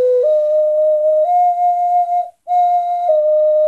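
A Latvian clay whistle (svilpaunieks), chosen as Latvia's souvenir for foreign guests during its presidency, is blown, giving a loud, pure, steady tone that steps between a few pitches, pausing briefly once before sounding again. No voices.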